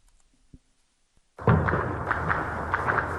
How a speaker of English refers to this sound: The sounds of gunfire echoed across the Sudanese capital, Khartoum, and other towns Monday afternoon.